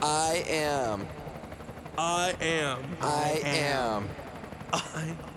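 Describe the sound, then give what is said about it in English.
A loud helicopter sound, made by a voice imitating it, with several whirring, wavering bursts of buzzing noise separated by short pauses. “Hey, come here, do you think you can get out of the helicopter? Are we still in the void helicopter?”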